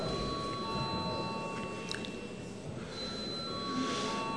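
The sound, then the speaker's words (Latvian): A parliament chamber bell rings steadily for several seconds, a sustained bright electric tone over a low background murmur, calling members to vote. “Paldies, lūdzu zvanu.”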